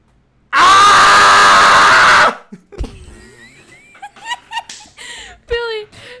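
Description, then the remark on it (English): A loud, harsh, high-pitched screech from a human voice doing an impression of the monster Guzzlord, held for about two seconds, then broken-up laughter and chatter from a few voices. “Just high pitched screech.”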